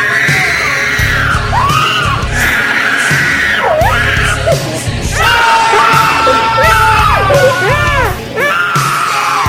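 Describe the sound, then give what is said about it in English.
A loud tantrum scream from a person crying for food: a run of harsh, wailing shrieks and bellowing yells that rise and fall in pitch, repeated with brief breaths between, filling the whole stretch. “Let me show you all what this scream is like.”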